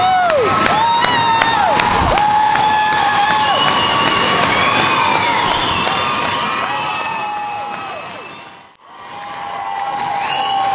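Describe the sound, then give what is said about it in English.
A large concert crowd cheers and shouts loudly and continuously, with shrill whistles cutting through the roar, calling for an encore; the noise briefly drops out near the end, then swells again. “Listen to this crowd. Think they want more”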